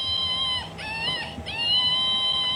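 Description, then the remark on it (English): A toy monkey, called the anxiety-producing monkey, in the Shanty of Misfit Toys at the Art Shanty Projects, lets out a shrill, warbling electronic screech, high-pitched and sustained, wavering with two brief dips before continuing steadily to the end. No one speaks over it. “And then there's a monkey that has a really weird screech to it.”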